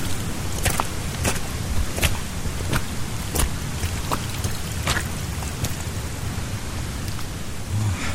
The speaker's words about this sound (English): Can you hear that? The water in the background? Pretty loud rumble. Oh, and you can see the rocks being carved out by the water.